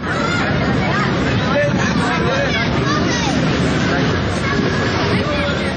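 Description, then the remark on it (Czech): Steady outdoor crowd hubbub in the morning in a park near the Belgrade bus station, where hundreds of refugees spent nights in the open: many overlapping voices murmuring at a constant level, with a low rumble of traffic underneath and no single voice standing out. “Jutro u parku kod beogradske autobuske stanice, gdje su pod otvorenim nebom stotine izbjeglica provele sve češće prohladne noći koje će tek dolaziti u nizu.”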